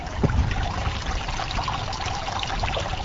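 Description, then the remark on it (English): A small decorative waterfall on a private rural property kept as a wildlife sanctuary, about a mile from the Rosendale Dairy site, trickles and splashes steadily, a continuous patter of falling water with no voices. “About a mile away, a small decorative waterfall sits on the property of Severin and Elaine Swanson.”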